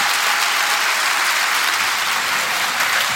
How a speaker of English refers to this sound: But I would ask you to join me in a big round of applause to thank Annabelle Crabb and David Marr. Thank you.